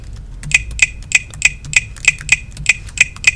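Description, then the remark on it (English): A run of about a dozen crisp keyboard keystrokes, evenly paced at roughly three per second, as someone types a password into a secure password field in System Preferences, Users and Groups. Bright, clicky taps with no talking. “Okay, so you have to put in your password. So I'll type in mine now.”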